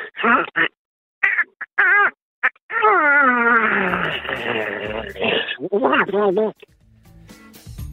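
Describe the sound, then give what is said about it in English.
A person does a squawky, warbling Donald Duck voice impression, trying to make someone yawn, in several short bursts and then one long quavering stretch, loud and nasal, with wobbling pitch. “It's a very naturopathic way of trying to squeeze out a yawn. Just a Donald Duck impersonation.”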